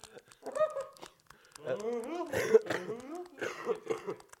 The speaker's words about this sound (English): Excuse me while I get my weed coughs out. No, not really. It's when you cough after having weed, but no, I wasn't smoking weed.